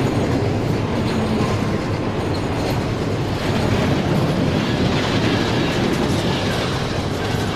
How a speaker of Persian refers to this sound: قطار به سمت کوههای برفی حرکت میکنه.